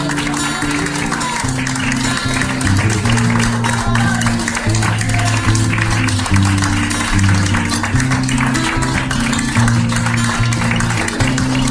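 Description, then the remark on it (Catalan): Health workers at a hospital clap steadily for the whole stretch as a patient discharged after being intubated with Covid-19 leaves the hospital, a dense, continuous patter of many hands at an even loudness, with voices and low tones sounding underneath. “Escoltem, si de cas, com aplaudien els serveis sanitaris a aquesta persona mentre sortia de l'hospital.”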